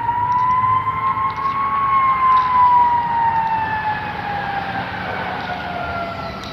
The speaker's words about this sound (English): I believe those are fire trucks.